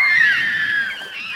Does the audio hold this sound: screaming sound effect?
yes